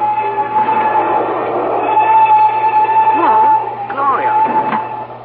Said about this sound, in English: The train gains momentum.